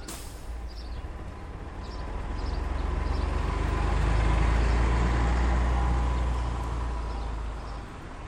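A coach bus's engine rumbles low and steady, swelling louder as it pulls away to drive home and then easing slightly, with faint bird chirps in the background and no voices.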